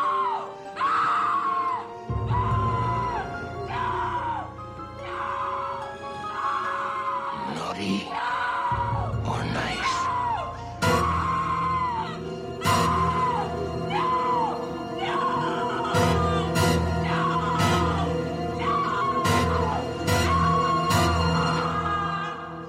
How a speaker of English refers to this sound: Here comes the never-ending scream.